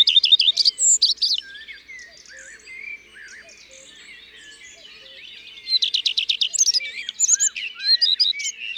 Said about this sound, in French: Et d'abord, le rouge-queue à front blanc. Très facile à reconnaître. Toutes ces strophes, ou presque, commencent par « i tru tru tru ».